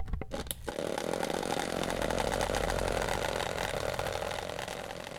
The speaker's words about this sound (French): Il a un moteur, ça fait des vibrations, il bouge avec les vibrations.